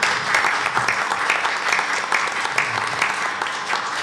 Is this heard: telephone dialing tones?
no